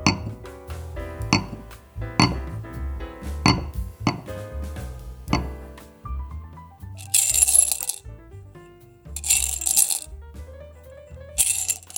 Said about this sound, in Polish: Dawajcie szklanki, dziewczyny, bo widzę, że już puste. Zrobimy doleweczkę.